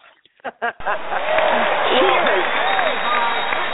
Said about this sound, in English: that was your cherry popping applause.